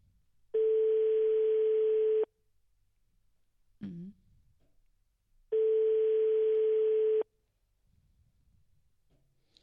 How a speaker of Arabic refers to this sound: هو العربون باين، هو رئيس الجماعه التليفون ديالهم مشغول.